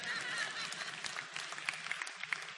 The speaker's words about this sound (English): Thank you. Keep clapping. Help these white people out.